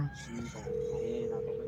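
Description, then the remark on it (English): An outgoing phone call ringing: a steady electronic ringback tone starts partway through and holds for about a second over a faint, busy background. “Oh yes, it's ringing. It's ringing.”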